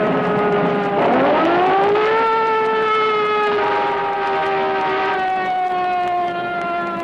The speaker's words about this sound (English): Some motorists still are not aware that a police siren means the cruiser needs the right of way. In this case, to get out of a traffic jam, the constable had to also use a blast of his horn.